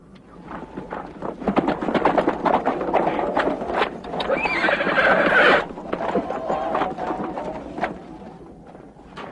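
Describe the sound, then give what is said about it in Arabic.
A horse whinnies loudly while its hooves clop in a steady, rapid rhythm, with a louder rising neigh in the middle and some wind rushing in the background. “لنذهب يا جوادي.”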